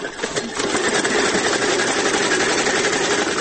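A sewing machine runs steadily, its rapid mechanical stitching forming a continuous dense whir with a fast, even chatter throughout, fairly loud and without any voices, used by a woman from Aqcha working as a tailor.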